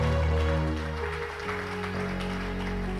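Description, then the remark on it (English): An audience claps their hands in praise of God in a steady, dense wash of applause, mixed with sustained organ or keyboard chords held underneath. “Why don't you clap your hands for who God is in your life?”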